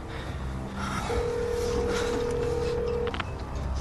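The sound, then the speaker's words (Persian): Telephone keypad tones as someone dials a call: a steady electronic tone holds for about two seconds, then a couple of quick, short beeps follow, all over a constant bed of background noise with no talking. “به کی زنگ میزنی؟”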